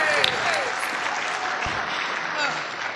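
audience applause and cheering

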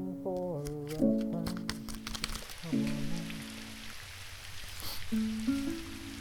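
rain falling

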